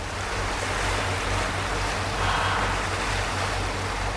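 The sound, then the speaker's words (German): A steady low engine drone from the two strong motors of a former Dutch ocean-going yacht runs beneath broad, rushing water noise as it motors through North Sea waves toward the waters between Wangerooge and Spiekeroog; constant and fairly loud throughout with no voices. “Die Nordwind ist eine ehemalige Hochseejacht aus Holland. Mit ihren 2 kräftigen Motoren erreicht sie in einer knappen Stunde das Seegebiet zwischen den Inseln Wangerooge und Spiekeroog.”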